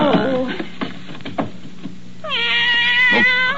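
A cat hidden in a desk meows, a short descending cry followed by scattered softer sounds, then a long, loud, drawn-out yowling meow near the end.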